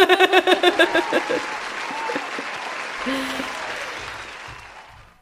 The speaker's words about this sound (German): Können wir bitte Applaus einspielen hier für diese?